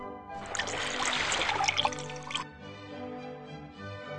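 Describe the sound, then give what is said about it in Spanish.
Water pours from a clay jug into a large jar for about two seconds, a bright splashing gush, then stops, leaving a faint lingering hum. “vacíame un cántaro en la tinaja.”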